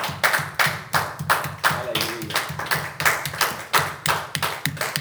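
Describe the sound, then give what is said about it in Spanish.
An audience at a Spanish-language church service claps together in applause to the Lord, a steady, rhythmic burst of sharp repeated hand claps at a brisk even pace, fairly loud throughout with a faint voice briefly underneath. “Vamos a dar aplauso al Señor.”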